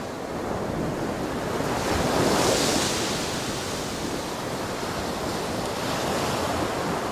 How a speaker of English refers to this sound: You are walking along the rocky coast of Maine. Listen. You hear the waves crashing on the shore.